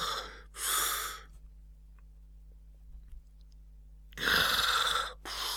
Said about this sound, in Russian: Храпел он.